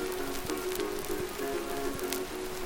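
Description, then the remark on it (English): A frying pan sizzles steadily, a continuous crackling hiss dotted with small irregular pops, over a faint low steady hum, with no voices. “You hear that pan starting to sizzle?”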